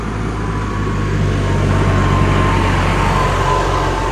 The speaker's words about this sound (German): Jetzt kommt, mal gucken, ob der die Kamera wegreißt. Jetzt kommt ein Traktor. Aber was für einer.